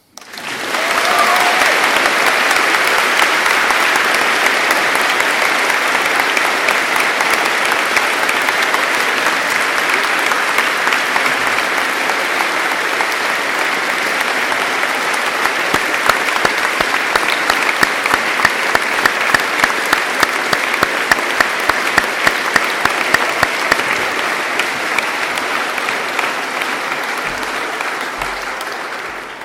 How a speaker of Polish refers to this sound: Brawa.